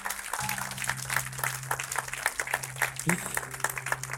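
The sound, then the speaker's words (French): A crowd at a baptism service breaks into sustained applause for all the newly baptized, many hands clapping in a dense, steady patter that carries on throughout, with a low steady hum underneath. “Est-ce qu'on peut juste donner une main d'applaudissement encore à tous les baptisés?”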